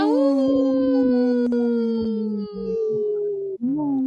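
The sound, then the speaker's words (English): A wolf howls in one long, loud, sustained wail that holds a steady pitch and drifts slightly lower, with a brief break and a rising lift near the end. “The wolves say no.”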